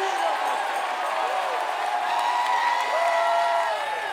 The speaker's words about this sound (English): Apostolic, unadulterated, unwatered down, preaching of the word of God. Somebody give God a shout of praise.